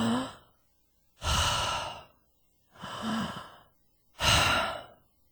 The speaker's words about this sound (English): So if you're stressed out and nervous, before you start to communicate, I want you to do some deep breathing and calm yourself down.